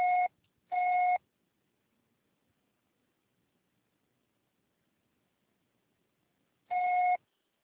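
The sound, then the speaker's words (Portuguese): Two quick electronic beeps of a steady mid-pitched tone, then several seconds of silence before a third identical beep, like an answering machine signalling to start recording. “Grave seu recado agora.”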